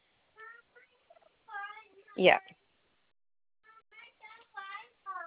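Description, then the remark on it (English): A pet Quaker parrot calls: bursts of short, tonal chirps and chatter, one loud harsh squawk in the middle, then a brief pause before more rapid chirping. “So he's a Quaker parrot.”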